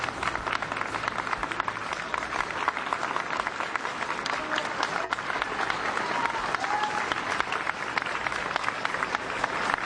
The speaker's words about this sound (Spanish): Son los aplausos de los transeúntes del aeropuerto, los que se unieron como agradecimiento a la labor que hicieron nuestros militares en su país, algo que en España, pues lamentablemente, no pasa tan a menudo.